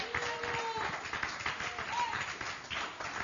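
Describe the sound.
An audience applauds together for Jesus during a church service, a dense, steady patter of many hands clapping for a few seconds, with scattered voices and a few whoops mixed into the sustained applause.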